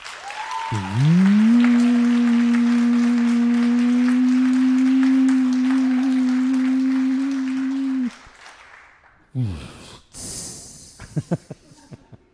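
Loud, dense audience applause holds steady for about seven seconds beneath a sustained low droning tone, then cuts off abruptly, leaving a few scattered, irregular noises.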